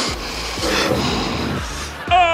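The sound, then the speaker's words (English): Several loud nasal sniffs, presented in a parody advertisement as the president sniffing, follow one another in quick succession, each a breathy rushing burst, with a faint voiced hum running underneath and a short tonal sound at the end. “Now that's what I call the president sniffing.”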